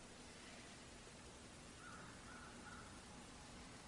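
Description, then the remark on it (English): A bird calls three times in quick succession, short harsh caw-like notes, faint against a steady background hiss, with no one speaking. “Then in the listening of the bird call and the wondering, or we can use any verbal question to start with, but leave it open.”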